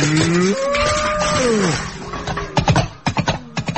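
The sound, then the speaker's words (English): A cow lets out a long, drawn-out moo, then kicks over a bucket with a quick run of loud clattering knocks. No one speaks. “look, Wash, the cow kicked the bucket”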